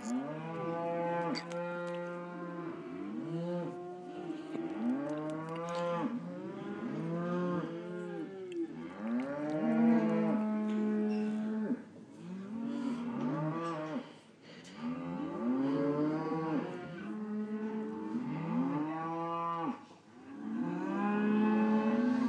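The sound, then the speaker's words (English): A herd of cattle on a farm moos almost nonstop, long drawn-out lowing calls overlapping one another, fairly loud, with no voices or other sounds breaking through. “We're down in our country home, and it's on a farm, and as you can hear, they are doing something with cows.”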